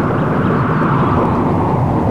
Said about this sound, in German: Sie toben und poltern im Berge, dass die Erde bis zu meiner Höhle bebt. Es sind zwar nur Zwerge, aber Kraft haben sie wie Riesen. Da, hört, der Berg donnert.